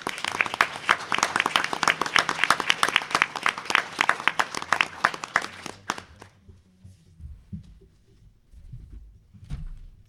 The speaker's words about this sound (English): We appreciate all you do. How about a nice round of applause for her?